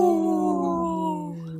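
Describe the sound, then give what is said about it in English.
A single sustained wolf howl, steady and fairly loud, its pitch sliding slowly downward as it fades slightly toward the end, with no talking over it. “brought to you by Howling for Wolves, protecting wolves for future generations. Howl!”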